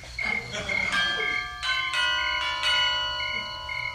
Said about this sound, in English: Make a note, that bell has got to go.